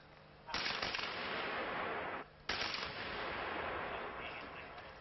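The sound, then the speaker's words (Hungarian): Two sharp sniper rifle cracks about two seconds apart, each followed at once by a loud, sustained rushing hiss as gas bursts from the punctured cylinder, fading only slightly toward the end. The gas cylinder, taken from a basement fire in a ten-storey apartment block, sits in a container on a playground. “A robbanás veszély miatt később mesterlövészek kilőtték, senki sem sérült meg.”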